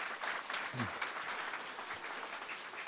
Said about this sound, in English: Let me ask for one more round of applause for Commissioner Cannon, Commissioner Hale, and Commissioner Johnson.